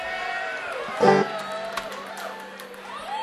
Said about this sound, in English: A confused smattering from the crowd.